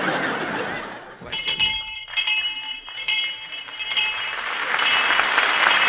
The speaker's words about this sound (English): Well, there's the bell, kid.